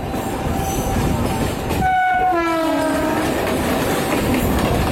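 A Mumbai commuter train rushes along the tracks at 90 km/h through the night with a loud, steady roar and rattle, and midway a descending horn-like tone sweeps past as it speeds by.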